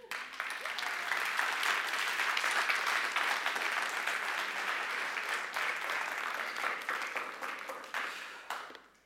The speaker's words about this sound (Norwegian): Og når vi ser det, da kjenner vi at vi får forferdelig lyst til å gi en skikkelig applaus for det.